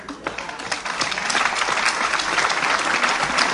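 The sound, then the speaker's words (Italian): Steady audience applause welcoming a group of children as they take their places, a dense wash of many hands clapping that swells slightly and holds at a fairly loud level throughout, with no voices standing out. “Bel applauso.”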